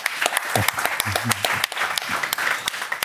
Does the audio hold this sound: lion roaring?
no